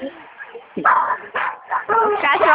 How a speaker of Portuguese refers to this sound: O cachorro tá bravo. Não, ele tá feliz, ele é animado.